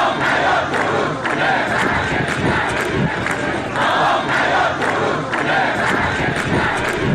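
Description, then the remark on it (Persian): Thousands of protesting farmers in Isfahan chant slogans in unison in the dry bed of the Zayandeh River, protesting the cut to their water rights and demanding the river's revival. Loud and continuous, with rhythmic surges of many voices shouting together and no single speaker standing out. “هزاران تن از معترضان در این تجمع که در بستر خشک زاینده رود برگزار شد با سر دادن شعار خواستار احیای این رودخانه شدند.”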